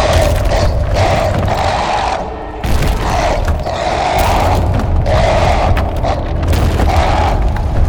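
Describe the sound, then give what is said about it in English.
A giant cardboard Kaiju monster stomps through a neighborhood and through Princess Dinosaurus' real garden: heavy, booming footfalls pound through a dense, grinding mechanical rumble, loud and nearly continuous, with one brief lull before the crashing resumes. No one speaks. “You're stomping right through Princess Dinosaurus' garden!”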